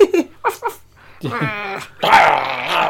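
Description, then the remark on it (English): A man's voice imitates a snarling wolverine: a few short guttural grunts, then a long rasping growl that swells into a loud, strained snarl. “Marvel, if you're listening, I'll do the voice for it.”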